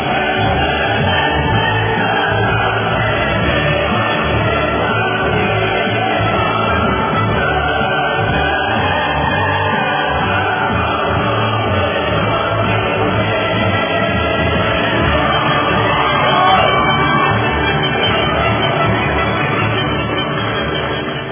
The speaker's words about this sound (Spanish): Aplauso ahí para el Papa y la Iglesia, que vamos a tener aquí estos beatos.